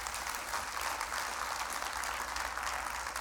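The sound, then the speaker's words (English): A crowd applauds steadily for a few seconds, a dense, even wash of many hands clapping at constant loudness with no voices heard. “I didn't do that to try to get an applause, just so you know.”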